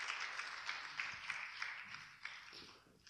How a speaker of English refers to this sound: Clap for him. Take your seat.